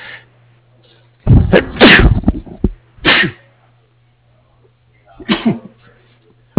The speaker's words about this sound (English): Excuse me, I just had a sneeze attack.